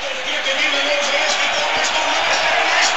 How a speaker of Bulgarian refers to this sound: Да чуете атмосферата от стадион Георги Аспарухов. Брин кипи, буквалния смисъл.